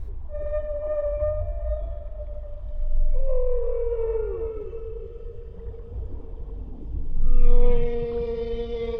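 Long, drawn-out whale song, by which whales communicate, rings through deep sea water: tonal moans that bend and slide downward, then a higher rising call, all over a low rumbling underwater hum with no voices.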